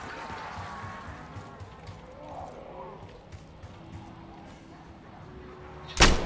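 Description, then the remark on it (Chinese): A door slams shut with one loud, sharp bang at the very end, following several seconds of low, murky background rumble and faint, indistinct voices. “开门，开门，开门，开门。”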